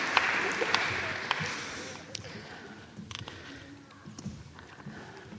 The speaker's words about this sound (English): Thank you very much for your help. Will you give a round of applause for the helpers?